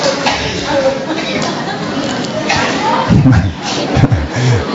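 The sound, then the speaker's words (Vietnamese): A crowd applauds steadily, a dense wash of clapping that fills the whole stretch, with a voice speaking over it near the end. “À, rồi, chúng ta cho một tràng pháo tay thưa anh chị em.”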